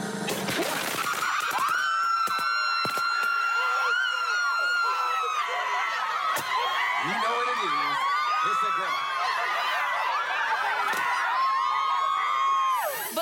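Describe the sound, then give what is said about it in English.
A party crowd at a carnival-themed gender reveal party erupts in loud, sustained cheering and high-pitched screaming as the baby's gender is revealed, excited, with overlapping shrieking voices running continuously throughout. “But let's take a look at the actual moment that we found out what the gender of the baby was.”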